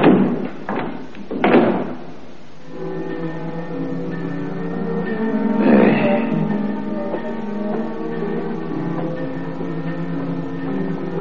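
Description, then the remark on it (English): A heavy morgue compartment door is shut with a couple of sharp clunks, followed a few seconds later by a single latching thud as the knob that holds it shut is turned, all over a steady sustained musical drone. “And turned the knob that held it shut.”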